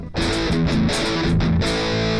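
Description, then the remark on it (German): A heavily distorted electric guitar plays a chunky rhythm-guitar riff through an amp, loud and fuzzy with thick saturated, old-style Rectifier-like distortion with no sustain, short choppy phrasing, no voices present. “Oh, diese sehr fassige Verzerrung, die es damals halt gab.”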